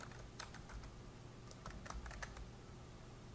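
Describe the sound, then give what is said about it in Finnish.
Quiet keyboard typing of a topic name while setting up exam questions, a loose run of soft clicks and taps at an uneven pace over a low steady hum, with no voices. “Ensimmäiseksi kirjoitetaan aihealueen nimi, joka näkyy myös opiskelijoille.”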